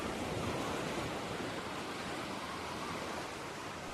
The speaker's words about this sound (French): Là, on a le vent de l'océan avec nous, hein, et les vagues qui nous emmènent.